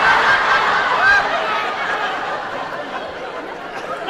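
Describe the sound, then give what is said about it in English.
A voice imitates a war whoop made with a finger in the mouth, a wavering, warbling cry held for about four seconds, loud, fading slightly toward the end. “Is that supposed to be an Indian war whoop?”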